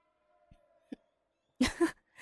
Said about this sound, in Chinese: 这么快就打呼噜了，手还流着血呢。唉，好好休息吧。